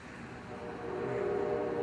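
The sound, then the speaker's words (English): A train rumbles by, heard through an open window, a steady low roar with a faint tonal hum that swells slightly louder over the short stretch, with no voices present. “Huh, there's a train in the background.”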